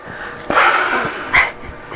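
A child blows short, breathy puffs of air, a longer whoosh followed by a quicker second puff, with no talking.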